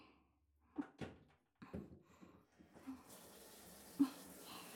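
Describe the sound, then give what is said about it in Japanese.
A few soft thumps and rubbing sounds as a lathered head of hair is scrubbed, then a shower spray switches on and hisses steadily, water rinsing the shampoo foam off the head for the last couple of seconds. “それじゃあ最後に、わしゃわしゃわしゃわしゃっと一気に洗って、はい、シャワーで流しちゃいますね。”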